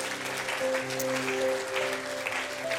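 Steady, dense audience applause for a panel fills the whole stretch, a continuous wash of clapping hands, with soft sustained keyboard chords humming underneath.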